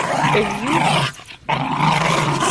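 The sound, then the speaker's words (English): A dog growls and yips loudly in two sustained, wavering bursts separated by a brief pause. No one speaks. “If that dog doesn't shut up.”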